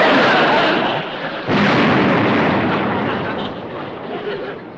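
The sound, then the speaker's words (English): A staff car explodes with a loud, broad roaring blast, then a second burst hits a moment later, and the rumble slowly fades out over several seconds. “Coincidence. Another staff car.”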